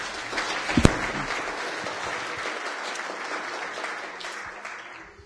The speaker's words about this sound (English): More applause